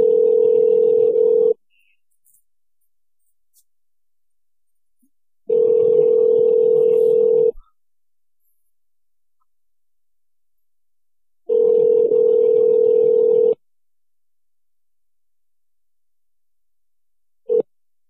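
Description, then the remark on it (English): A phone ringback tone purrs in steady two-second bursts separated by long silent gaps, three full rings and the start of a fourth, with the call going unanswered. Clear, no voices. “calling him about this whole debacle with Alex Jones. Hopefully he picks up.”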